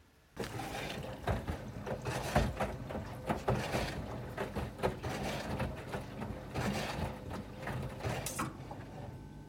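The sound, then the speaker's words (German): An old washer-dryer running its spin cycle: a steady, loud mechanical rumble and grinding whir, broken by irregular knocks and clunks throughout, with no voices. “Wenn ihr mal hören wollt, wie sich der alte Waschtrockner angehört hat.”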